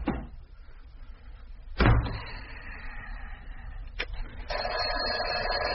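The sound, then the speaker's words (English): An office door swings shut with one loud, solid thud, followed a couple of seconds later by a lighter click of the latch. A steady low background hiss runs throughout, and no one speaks. “Ah, breeze on out, Miss Gonzalez, and close the door.”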